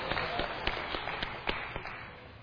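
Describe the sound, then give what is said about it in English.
An audience at a sermon applauds the sound system after its disruptive noise stops, in a steady wash of hand claps, with a few sharper individual claps standing out. The clapping is fairly soft and continues evenly through to the end. “Give the system a round of applause, please.”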